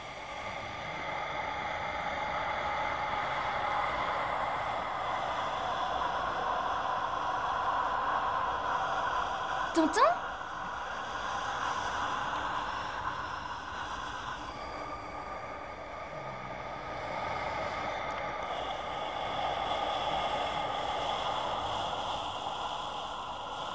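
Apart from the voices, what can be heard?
calm steady wind blowing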